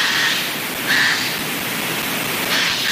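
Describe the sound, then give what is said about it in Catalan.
A Eurasian jay (Garrulus glandarius) gives two harsh, rasping screeches about a second and a half apart, fairly loud against a steady hiss of background noise. “Gaig. Garrulus glandarius. El trobem durant tot l'any a les zones boscoses.”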